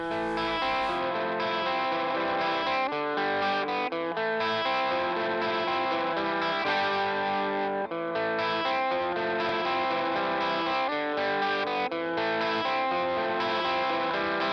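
A full English-language band song plays loud and steady throughout, with effected, chorus-laden guitars over a driving rhythm section; no talking, just the music filling the whole stretch.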